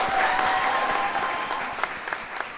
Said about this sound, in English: Clap it up one more time